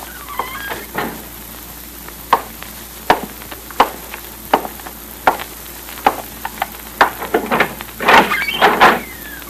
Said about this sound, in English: Go in the other office. You can slip out the other door after he comes in here. Close the door quietly.